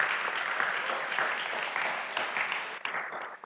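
An audience claps steadily, a dense, even wash of many hands that holds for a few seconds and then starts to thin out near the end.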